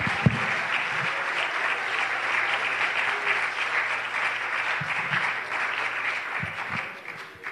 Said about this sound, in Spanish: ¿Cuántos se atreven a darle un aplauso al Rey de Reyes y Señor de Señores?